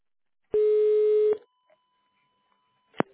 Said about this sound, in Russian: Вы позвонили в компанию «ГрузАвто». Наберите в тоновом режиме добавочный номер специалиста или дождитесь ответа секретаря.